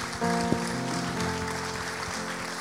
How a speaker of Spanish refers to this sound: Si usted está aquí en este día, dale un aplauso al Señor.